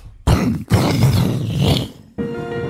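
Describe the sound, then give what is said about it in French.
A voice imitates a triple thunderstorm with harsh, roaring rumbles and throaty growls, two long loud bursts broken by a brief gap, then a softer buzzing tail that fades. “Bah, je fais le triple orage.”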